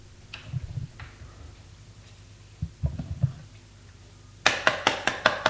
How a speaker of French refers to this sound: On a frappé à la porte.